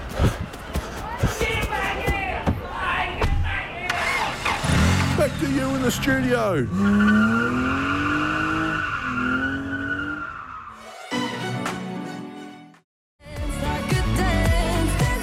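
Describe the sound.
A car tears away with a long, loud screech of squealing tires, the pitch wavering over several seconds, amid busy sound and brief speech before and after.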